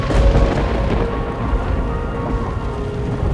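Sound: thunder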